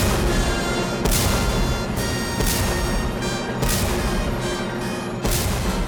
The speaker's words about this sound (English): Five cannon shots are fired in the Battle of Borodino, a turning point in the war.